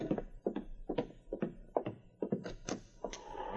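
A knock at a door: a steady series of about eight dull, hollow thunks, fairly evenly spaced and moderately loud, with no voices.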